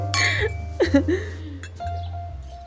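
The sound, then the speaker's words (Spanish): Glasses clink together in a quick toast, with a short bright ring, over a low steady background hum and a few brief vocal sounds. “Ay, bueno, propongo un brindis por quienes jamás hemos cometido delitos.”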